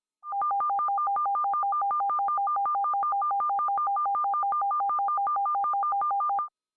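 Two steady pure tones, one slightly higher than the other, switch back and forth very rapidly in a continuous, even trill lasting several seconds, with no voices present.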